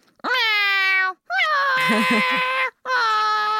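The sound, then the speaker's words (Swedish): A person imitates a cat meowing, letting out three loud, drawn-out, whiny meows in quick succession with short pauses between them. “Kommer in och jamar som en jävla galning.”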